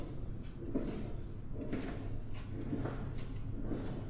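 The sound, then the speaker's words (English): A door opens as someone walks through it, a series of soft, muffled bumps and scrapes spread over a few seconds, set against a steady low rumble of background noise. “You are walking through another door.”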